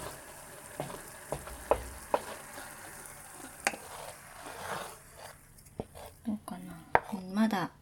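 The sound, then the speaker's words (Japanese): Steady sizzling of fine bubbles in a pan, with sharp little pops and ticks scattered throughout and a few utensil knocks, the bubbling thinning toward the end. “気泡が、たくさん出てきました。プチプチプチプチって。”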